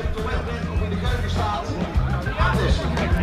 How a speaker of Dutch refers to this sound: Ik heb het idee dat de veiling nu zo heel langzaam gaat beginnen. Er staan mensen op het podium. Ik hoor geschreeuw inderdaad.